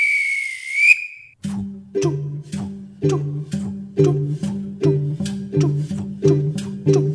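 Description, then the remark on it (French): A single shrill, steady train whistle blast signalling departure lasts about a second, rising slightly at the end, then gives way to a steady, rhythmic beat of low alternating tones, with no voices. “Et attention à la fermeture automatique des portes, attention au départ.”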